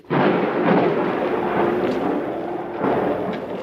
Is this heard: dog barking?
no